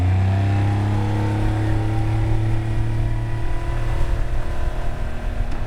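A motorboat engine drones steadily, a low humming rumble with a slight shift in pitch partway through, running continuously with no voices, as the boat travels on a river into an oxbow side arm toward the spot where it was launched.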